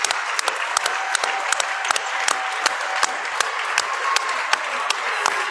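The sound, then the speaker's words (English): A basketball crowd applauds steadily as player Chase leaves the game after his fifth foul, a dense wash of many hands clapping with sharper individual claps popping through, moderately loud and continuous throughout with no talking. “Chase gets a nice applause by the crowd.”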